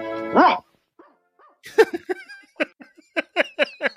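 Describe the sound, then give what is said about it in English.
In a cartoon clip, the character Rocket Robin, made a watchdog, imitates a dog, starting with one loud, drawn-out bark, then after a short pause a rapid string of about a dozen shorter, yappy barks. “He just starts barking like a dog.”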